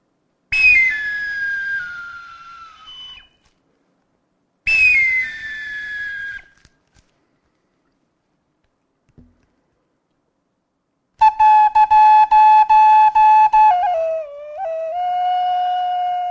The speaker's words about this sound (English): So I come before you to share this song that I made for my friend, Evan Cardam, on the flute here. So this is his song.